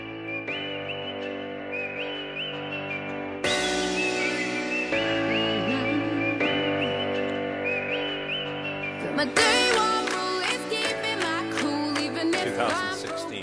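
A bright whistled melody carries a cheerful tune over a full instrumental backing, steady and fairly loud for about thirteen seconds, with no one talking.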